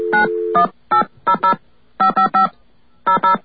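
Touch-tone telephone dialing of a special number that reaches an AT&T Long Distance Network recording: a longer opening tone followed by about nine short, clear beeps in irregular clusters of one to three, played loud with no talking.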